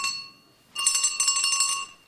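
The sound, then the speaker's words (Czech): A small hand bell, rung by a patient left alone to call for someone, lingers faintly, then is shaken hard for about a second, producing a rapid, bright jangle of ringing before it stops abruptly; no voices. “No tak zvoním, nebo nezvoním.”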